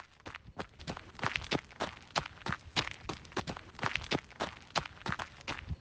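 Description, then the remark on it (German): Quick, steady running footsteps of people running through a lakeside park toward a 15-metre-high wooden tower, a brisk regular rhythm of sharp impacts lasting several seconds with no voices. “Wir freuen uns so sehr, dass wir dahin rennen.”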